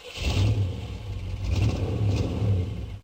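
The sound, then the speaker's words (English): A targeted homing weapon in a video game firing with a loud, sustained roar like a big combustion engine revving, low rumbling throb that surges and dips for about three seconds before cutting off abruptly, no voices. “When you fired it, it made this like huge internal combustion engine sound.”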